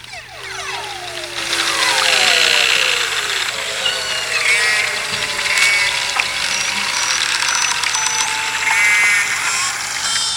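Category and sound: animal, whale sounds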